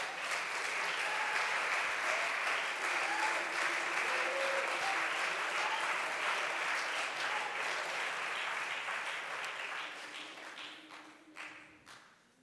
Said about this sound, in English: Give the Lord a hand clap of praise for a healing right now.